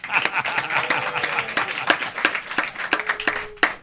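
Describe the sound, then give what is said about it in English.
A small group claps for a few seconds as band members are introduced, the claps dense, uneven and fairly loud, with faint voices murmuring underneath. “And if you're out there, you can clap, even though we can't see you.”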